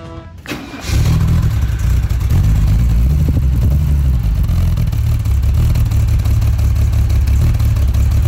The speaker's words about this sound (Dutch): Wauw, ik ben verliefd. Weet jij welke auto er is gestart in de showroom?